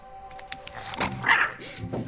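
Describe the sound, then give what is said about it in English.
A creature knocks over a kitchen bin in a workshop and helps itself to the scraps: the bin clatters and tips over with a few sharp knocks and a brighter metallic rattle midway, mixed with a dog's soft whimpering and snuffling. “The creature knocks the bin over and helps itself to the scraps.”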